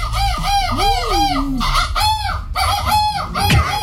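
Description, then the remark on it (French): A man, the Belgian champion of a seagull-cry contest, imitates a seagull's cry: a rapid series of loud, arching, nasal squawks repeated for a few seconds, with no talking. “Écoutez le champion de cri de la mouette, belge.”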